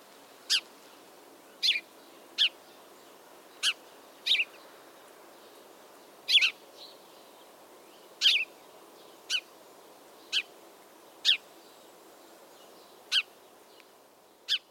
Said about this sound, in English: Some field guides or other publications describe this song as chirp, chirp, cheerip, or cheer up. All of those could work. I mean, have a listen to these sparrows and decide how you would spell their songs as written words.